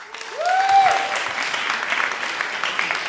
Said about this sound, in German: Euer Applaus!